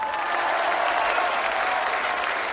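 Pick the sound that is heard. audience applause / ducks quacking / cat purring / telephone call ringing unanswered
audience applause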